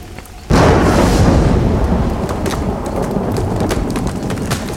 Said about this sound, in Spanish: ¡Uy! Ahora sí arreció la lluvia. ¡Ja! Ya se enojaron en el cielo. ¡Miren qué barbaridad!